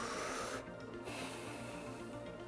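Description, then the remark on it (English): A loud deep breath, a long airy inhale with a brief pause before a slow, noisy exhale, with no talking. “No, like seriously, right now, in this video, take a deep breath. Do it again with me, please, right now.”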